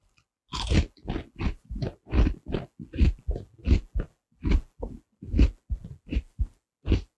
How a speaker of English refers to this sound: It's surrounded by cords. I have to chew through them.